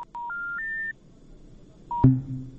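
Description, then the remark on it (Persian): A listener's phone call to a Radio Azadi call-in programme disconnects: a quick run of rising telephone tones, three steps climbing in pitch, then a short beep and a sharp click as the line cuts off, leaving low hum and faint noise. “تماس تلفنی شنونده ما قطع شد.”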